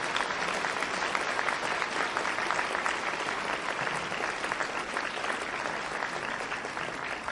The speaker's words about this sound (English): Can we just give her a round of applause?